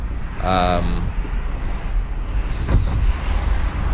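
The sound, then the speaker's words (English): Steady low road rumble and wind noise heard from inside a car being driven, with a brief high tonal sound early on and a passing car whooshing by about midway. “Maybe you guys can hear the cars, and maybe that's cool.”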